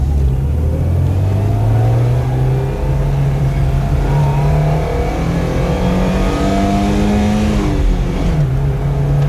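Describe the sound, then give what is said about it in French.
A car engine accelerates on a huge avenue, its loud steady drone climbing in pitch for several seconds before a brief dip as it shifts gear, with no voices. “Un bus, une bagnole, là-bas, toi, des gens qui traversent.”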